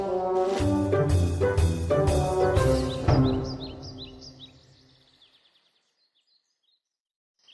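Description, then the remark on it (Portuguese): A mimicking bird copies a trumpeter bird's call: a run of loud, brassy honking blasts in quick succession, fading into a ringing tail scattered with faint high chirps before silence. “Este pássaro pode imitar o barulho do pássaro trombeta muito bem.”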